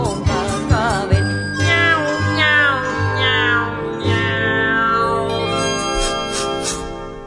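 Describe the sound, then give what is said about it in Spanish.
Singing voices imitate a cat's meow several times over a bright, tinkling music accompaniment, the playful meows repeating in a sing-song rhythm, fairly loud. “un gatico de papel. Miau, miau, miau, miau.”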